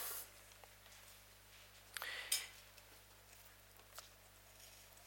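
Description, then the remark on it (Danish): Faint scratchy strokes of writing page number 1094 on a board, a few short bursts with a brief louder streak in the middle, set against a quiet background hum with no talking. “Og mens I kigger ned og prøver at finde side 1094, så gør jeg lige sådan her. Så kom den også lige på tavlen.”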